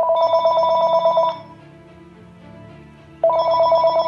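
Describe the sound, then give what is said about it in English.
A telephone rings twice in bursts at a house in Jupiter, Florida, on Thanksgiving evening, 2009, during last-minute meal prep: a steady bright trilling tone lasting over a second each, separated by a quiet pause with only a low hum underneath. “Paul's mom, Carol, is finishing up some last-minute meal prep when the phone rings.”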